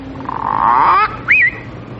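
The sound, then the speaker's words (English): A parrot squawks twice, loud: first a long, harsh, rising screech, then after a short pause a brief, higher-pitched squawk. No one speaks. “Hello, Parrot. This is my friend Larry.”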